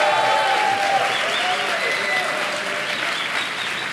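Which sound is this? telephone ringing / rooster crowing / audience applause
audience applause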